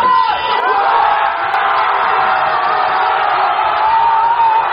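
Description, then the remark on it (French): A packed crowd of PSG football supporters, English and French speakers, roars and shouts in a bar at PSG goals during a match against Inter Milan, a dense, steady wall of cheering voices with sharper whoops rising above the din throughout. “À chaque but du PSG, les cris s'intensifient.”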